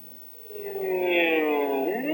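An air raid siren wails in Israel on Yom Kippur, set off by Syrian planes bombing the northern Golan Heights: a loud droning tone rich in overtones that swells in after a moment, glides slowly in pitch, then starts to dip at the end.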